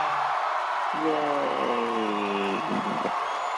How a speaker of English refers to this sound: Yay! Okay, we'll stop the audience cheer there. So this is the audience cheer.